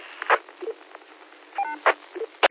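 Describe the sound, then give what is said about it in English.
Courtesy tones from the linked 6-1 and 8-2 repeaters over a tinny radio channel, heard while a prototype repeater is being installed at the repeater site: short electronic beeps, some low two-note chirps and one higher multi-tone sequence, separated by sharp bursts of squelch static. No talking. “And you're hearing the courtesy tone from the 6-1 and you're hearing the courtesy tone from the 8-2, both of them.”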